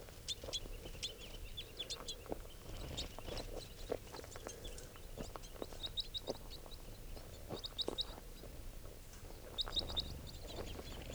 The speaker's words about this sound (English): There are more than four brown birds. There are probably about 10 crossbills here. Some red, two red ones, and the remainder are females and juveniles.